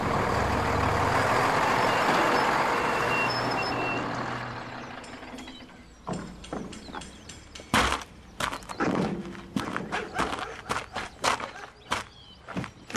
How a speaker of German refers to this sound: Da kommt auch schon der Lastwagen.